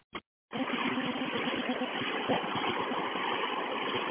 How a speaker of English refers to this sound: So I don't know if you can hear this bus. I mean, this bus making this noise. I don't know if you can hear it. It's 2915. Okay. Is that from the fan? In the back? Yeah, you can listen to this. Yeah, it's from the back, though.